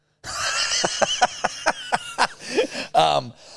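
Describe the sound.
A rapid run of harsh, evenly spaced bursts like a coughing fit, about seven in a row, ending in a couple of strained, voiced gasps over a steady background hum.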